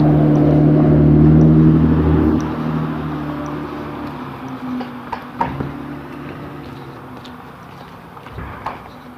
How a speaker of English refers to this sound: Staples delivery truck. Not exactly the normal kind of traffic I would have expected on the street, but okay.